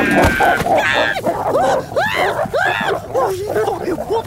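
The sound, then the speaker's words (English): A wolf in a mailbox growls and snarls, loud and continuous, in a run of rough rising-and-falling vocal bursts over about four seconds. “Why is there a wolf in my mailbox?”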